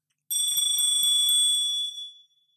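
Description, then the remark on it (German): A single bright bell rings out with a shimmering, metallic tone and a brief rapid trill, then fades over about two seconds. It sounds clear, with no one talking. “Klingel.”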